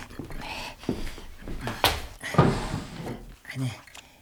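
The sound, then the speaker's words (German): A desk drawer is pulled open: a couple of short wooden scrapes and knocks, the main slide about midway, amid soft rustling and quiet human sounds. “Und was ist mit dieser Schublade da?”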